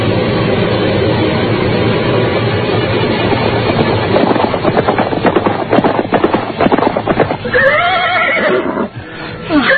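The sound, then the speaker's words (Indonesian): Several horses, mounted by soldiers giving chase, gallop in a loud rush of pounding hooves over a noisy wash, and near the end one horse lets out a shrill, wavering neigh. “Naik ke atas kuda kalian. Kejar mereka. Kejar.”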